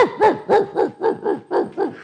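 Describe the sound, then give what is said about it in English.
A dog barks in a quick, steady run of about seven sharp barks, evenly spaced, with no voices or other sounds alongside. “You know, years ago, we used to have a dog in the neighborhood. It would bark all the time.”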